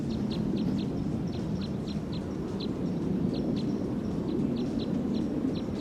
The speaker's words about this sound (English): Stop. Recording the wild bird from about 40 meters away on filter 3.